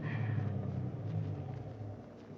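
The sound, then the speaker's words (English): A car engine rumbles low and steady out front of a house, its idle droning on without a break and easing slightly as the vehicle settles to a stop. No voices. “The car's out front. It stopped.”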